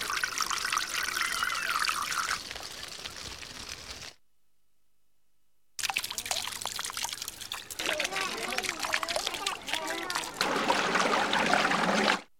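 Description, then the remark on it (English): Water trickles and burbles steadily along a canal, a continuous watery wash that drops out into silence for a moment before resuming with a brighter, busier flow. “Canal.”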